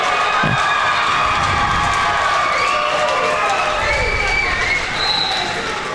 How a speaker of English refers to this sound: That loud cheer you hear is coming from the Cambridge-Forest Lake battle.